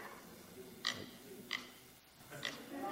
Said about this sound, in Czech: Prase.